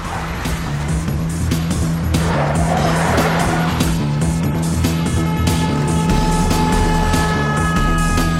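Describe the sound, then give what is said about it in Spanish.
Car engines rev and roar, with tires squealing and skidding as vehicles pull away loudly, a steady engine hum filling the whole stretch. The people driving off have their hoods up and their faces covered with scarves. “Se suben los capuchones, se embozan con pañuelos y montan en sus vehículos.”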